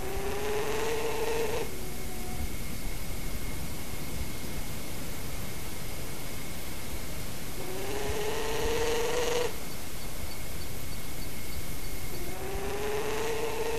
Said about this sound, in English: The third clip is a growling, buzzing call given between the pair near the nest hollow, probably to express concern at human presence.